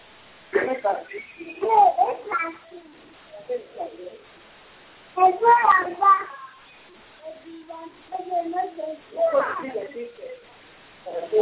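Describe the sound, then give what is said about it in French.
A baby babbles and coos in a series of short, irregular vocal bursts with brief pauses between them, moderately loud over a thin, band-limited line, heard during an AFRALO meeting. “On entend un bébé.”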